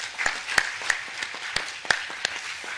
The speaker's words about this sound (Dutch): Nou. Ja, hij hangt. Nou, applaus.